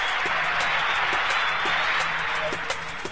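A big hockey arena crowd roars steadily for several seconds as players Bailey and Shore meet and reunite, a dense wash of cheering and shouting with scattered claps and a faint low hum underneath.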